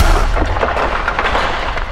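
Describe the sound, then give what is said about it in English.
The heavy maces of two giant warriors clash in a savage duel, throwing sparks, in a rapid series of loud, booming bangs, the impacts crowding together over a thick, rumbling din with no pause and no voices. “The maces of the giants struck each other with loud bangs, and sparks flew into the sky.”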